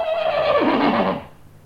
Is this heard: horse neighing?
yes